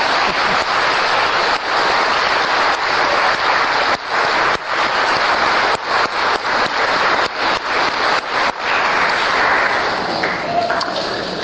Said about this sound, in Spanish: Para ellos, grande aplauso para ellos.